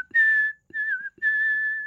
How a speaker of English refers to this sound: No one can whistle, huh? I can. Go for it.